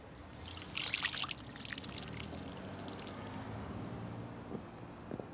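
Water trickles and splashes into a bowl set out as drinking water, a brief brighter gush near the start settling into a steady, quiet dribble. No one speaks.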